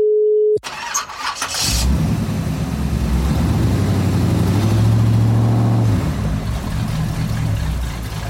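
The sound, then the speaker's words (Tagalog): A car engine cranks and sputters loudly and continuously, struggling to turn over, after a brief electronic beep at the start. No one speaks. “Nasiraan ka na ba ng kotse sa daan? Stress! Sira na nga ang kotse mo.”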